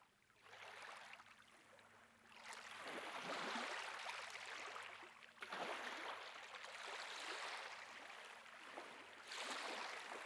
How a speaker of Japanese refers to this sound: そう、波の音さ。脳波を正しく測定するには、君自身をリラックスさせる必要があるからね。その点、波の音は最適解と言えよう。知ってるかい？波の音が好まれる理由の一つに、母親の体内音によく似ているからというものがあるんだ。